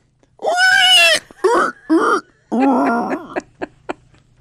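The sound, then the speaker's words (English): A person imitates a pig, letting out a loud, high, wavering squeal followed by shorter squeals, a longer strained squeal and a few quick snorting grunts at the end. “Are you good at squealing like a pig?”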